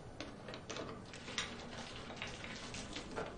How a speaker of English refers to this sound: Is that gasoline? What are you doing? Why are you pouring that everywhere? You know that I can set fire to this place with one match, right?